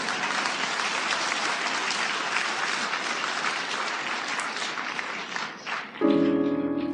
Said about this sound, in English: Well, come on, clap, damn it. What's wrong with you?